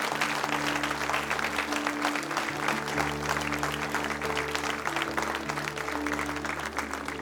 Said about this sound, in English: Yes, you can keep clapping.